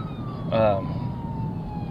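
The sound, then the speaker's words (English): A police siren passes by: a thin, steady wail that slowly drops in pitch over two seconds, over a low rumble of traffic, with a brief louder burst partway through. “And yeah, you probably heard the police go by.”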